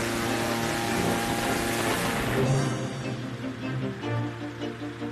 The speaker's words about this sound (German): Zuerst bläst Andi mit einem riesigen Ventilator jede Menge kalte Luft in den Ballon.